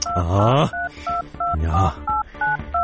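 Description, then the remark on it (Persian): A telephone number is dialed on a keypad: a quick, steady string of about seven clear, mid-pitched touch-tone beeps, with a couple of brief, voice-like sounds mixed in between them. “کو شمارش؟”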